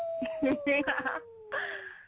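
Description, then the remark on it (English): A played sound effect of a dog's long, steady howl that slides slowly downward in pitch for about two seconds, partly covered by a burst of voices talking over it before fading out. “I think someone's howling because you went outside with some booty shorts on.”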